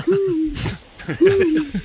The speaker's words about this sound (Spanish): Un búho. Oye, lechuza.